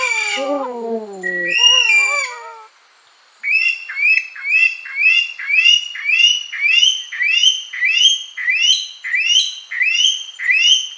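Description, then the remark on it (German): An Aldabra white-throated rail calls loudly: a few harsh, descending squawks, a short pause, then a long, steady run of rhythmic repeated calls, with no talking. “Der Vogel der Woche, die Aldabra-Weißkehlralle.”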